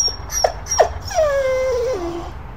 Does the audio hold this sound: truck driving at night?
no